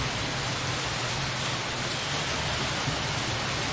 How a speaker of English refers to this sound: So should we stop or we just keep going? Just keep going? You don't want to stop, you don't want to get out in the rain. Okay, we'll just keep going.